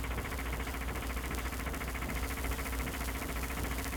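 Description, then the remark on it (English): A car engine chugs along steadily on Highway 79, passing a house, its low rumble broken into quick, even pulses that hold at a moderate level for the whole stretch, with no voices over it. “Highway 79, where Fibber and Molly are cheerfully chugging past a house with a sign in the window.”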